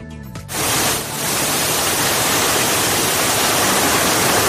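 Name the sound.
heavy rain shower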